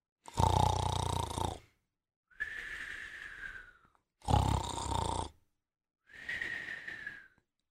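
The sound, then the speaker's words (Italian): A man snores in two full cycles, the snoring drifting from a studio window on Rue Pavée Saint-Sauveur in Paris: a loud, rasping rumble on each inhale, followed by a thin, high whistling wheeze on each exhale, with a slow, steady rhythm and no talking. “Il suo russare cominciò a diffondersi dalla finestra dello studio di Rue Pavée Saint-Sauveur, tanto che i bambini in strada smisero di inseguire la palla e cominciarono un nuovo gioco.”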